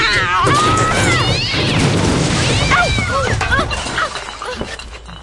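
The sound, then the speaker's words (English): A cat yowls and screeches in a sudden attack, with a loud crash and clattering impacts mixed in; the scuffle is frantic, fading slightly near the end. “It was just an animal. I scared it away.”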